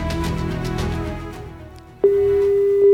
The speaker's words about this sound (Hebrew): וואי, הנה החיוג, הנה החיוג. איזה תכונה. זה טירוף. זה לא יאומן. שלושה שבועות מורטי עצבים. יש כבר צליל חיוג. יש כבר צליל חיוג.